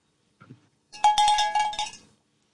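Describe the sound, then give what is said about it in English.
A brief faint low thump, then a quick burst of cowbell hits ringing with a bright metallic tone, several rapid strikes over about a second before fading out. “That's cowbell.”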